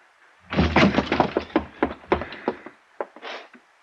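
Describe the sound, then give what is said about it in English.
A door down the hall being locked: a rapid run of rattling metallic clunks and clicks lasting about two seconds, then a short pause and a few separate clicks. No voices. “Hey, somebody just locked up. That was down the hall.”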